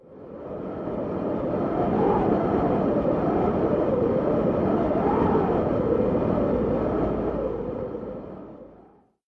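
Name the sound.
wind blowing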